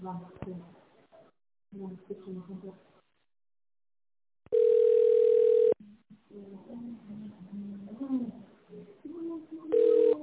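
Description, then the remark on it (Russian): A telephone ringback tone while waiting for a secretary to answer after an automated phone menu for the Bizon Group management company: a steady, loud mid-pitched beep lasting about a second, then a pause filled with talking before the next beep starts at the very end. People speak before and between the tones. “И дождитесь ответа секретаря.”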